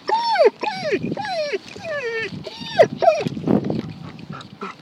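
A dog named Yusuf, wanting to play, whimpers in a rapid run of high, wavering whines, about six or seven pitched cries that rise and fall in quick succession, fairly loud and with no talking over them.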